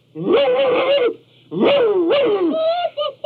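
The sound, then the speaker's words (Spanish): A voice imitates a dog barking angrily with two long, loud, drawn-out barking calls, the second breaking into a few shorter yaps at the end, harsh with no talking. “recordó la pelea del primer día y, temiendo otra peor, comenzó a ladrar coléricamente.”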